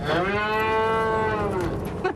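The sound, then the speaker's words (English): A dairy cow gives one long, loud, drawn-out moo, steady and mournful for nearly two seconds before trailing off, as the cows eat their feed, with faint background noise and no talking. “And who knows, maybe the next glass you drink will come from one of these cows right here.”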